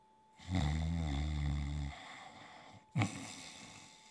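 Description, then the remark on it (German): A loud, rumbling snore drawn out for over a second, followed by a quieter trailing breath and a short, sharp snort-like intake near the end. No talking. “Mit vollem Bauch legte er sich wieder ins Bett, schlief ein und fing an, laut zu schnarchen.”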